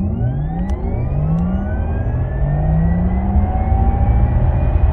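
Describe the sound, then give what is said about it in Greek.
A Taycan electric car accelerates with its motor sound amplified so occupants sense the acceleration, a rising synthetic whine, smooth tones climbing steadily in pitch over a low road rumble, loud with no one speaking. “Οι ηλεκτροκινητήρες από μόνο τους γεννήτριες έχουν έναν ήχο. Yeah. Αυτός ο ήχος λοιπόν, προφανώς η λογική ήταν να ενισχυθεί”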